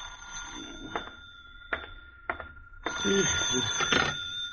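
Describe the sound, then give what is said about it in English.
A telephone in an apartment rings past 2 o'clock with a bright, sustained metallic trill that runs through the whole stretch, fairly loud, broken by a few sharp clicks and some low murmuring near the end. “It must have been past 2 when the phone rang.”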